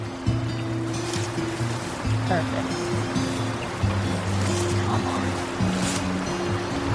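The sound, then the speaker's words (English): Water sloshing and splashing as someone wades through a river, with a few louder splashes over a steady rush of flowing water and a low droning hum underneath. “We're actually getting to wade into the water now”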